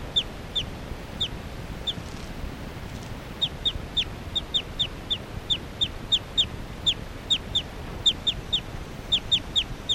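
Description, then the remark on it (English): Short, high-pitched bird chirps repeat steadily through the whole stretch, bright little peeps over a continuous low rumbling background noise, with no one talking. “Occasional chirps by 378 there.”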